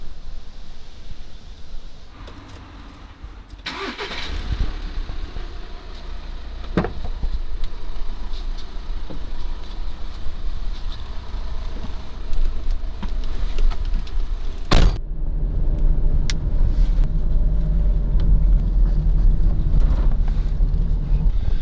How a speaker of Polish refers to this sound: Okej, proszę Państwa, po tych próbkach, które wcześniej prezentowałem na balkonie, przyszła kolej na próbki w samochodzie. Ten mikrofon, jak Państwo zauważyli, jest mikrofonem superkierunkowym, kardioidalnym.